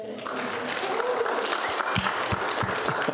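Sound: audience applause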